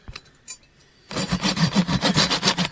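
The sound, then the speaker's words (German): A hand saw cuts through a wooden beam with quick, rhythmic back-and-forth strokes, loud, after a second of faint tapping and shuffling. No one speaks. “Sauberen Cut, wir haben jetzt den Balken gespalten.”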